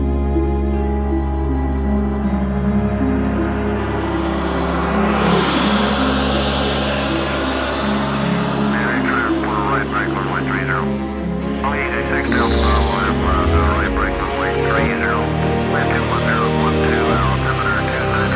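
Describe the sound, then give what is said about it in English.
A spacecraft landing, its engines roaring loud and steady with a deep rumbling drone, a rising whine early on, then rattling, crackling bursts layered over the sustained roar. “We're down safely, and that's what counts.”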